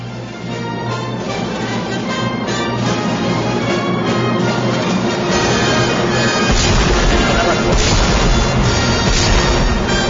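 A full orchestra plays Tchaikovsky's 1812 Overture loudly with sustained brass and strings, then heavy booming cannon blasts crash in around the middle, thickening the low end as the music swells to a climax.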